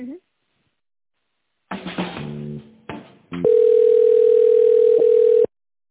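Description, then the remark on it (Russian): A loud, steady telephone tone holds one mid pitch for about two seconds while a call is transferred, preceded by a few seconds of choppy, garbled line sounds. “Ну, я сейчас соединю, она вам точно да, скажет.”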